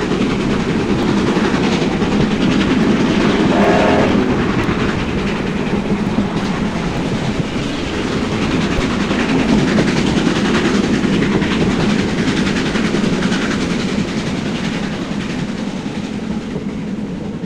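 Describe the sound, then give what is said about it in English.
A steam train rumbles steadily along the rails on New Zealand's main trunk line during a commemorative journey marking the line's 100th anniversary, a continuous loud roar of wheels and carriages with rhythmic clickety-clack and a brief tonal whine near the start, no voices present. “Recordings of a commemorative train journey to mark the 100th anniversary of New Zealand's main trunk line, released in a fantastic gatefold sleeve by Kiwi Records in 1985.”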